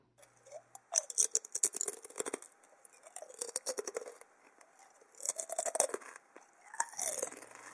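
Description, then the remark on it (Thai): Crunchy potato chips being chewed, loud crackling bites coming in several quick bouts with short pauses between, each bout a rapid series of sharp, crisp snaps. No voices. “ลองฟังเสียงการรับประทานเค้กช็อกโกแลตค่ะค่อนข้างสงบเงียบนะคะเปรียบเทียบกับเสียงเคี้ยวมันทอดค่ะ”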